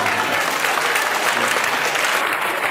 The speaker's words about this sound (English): Why are you clapping?